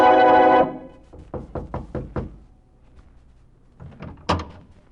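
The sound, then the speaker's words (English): Five firm, evenly spaced knocks rap on the wooden door of the Pope's chamber, in a 1492 scene where an Italian barber is called to cure Pope Pius VIII, after a brief loud opening burst; then a few softer knocks and one heavier thud follow a pause. No one speaks. “And I began with the Italian barber, who in 1492 was called in to cure Pope Pius VIII, and who was met at the door of the Pope's chamber by a suspicious cardinal.”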